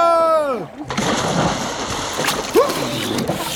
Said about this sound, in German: Boah, ist das herrlich! Wie ein Fisch im Wasser zu schwimmen und sich mit dem Rüssel das kühle Nass über den Rücken laufen zu lassen. Und zu tauchen!